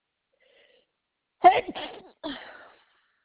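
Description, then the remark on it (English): A sudden sneeze from a person with allergies bursts out during a phone call after a moment of quiet, fairly loud with a thin, phone-line quality, followed by a shorter breathy exhale. “Bless you.”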